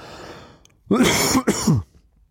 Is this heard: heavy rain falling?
no